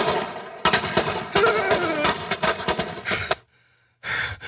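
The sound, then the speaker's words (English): A loud, rapid string of firecrackers crackles and pops in quick irregular bursts, pauses briefly near the end, then bursts into another short volley. “They were just firecrackers.”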